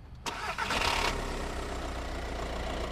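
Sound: car engine starting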